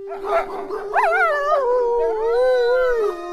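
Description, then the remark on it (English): A wolf howls in one long, sustained, wavering cry that rises, sweeps and slowly falls, steady and fairly loud with clear tonal harmonics, heard alone without voices. “Now, when the full moon shines, Kuakuatsu, the wolf, sings to her.”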